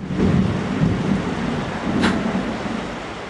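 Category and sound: nature, heavy rain with thunder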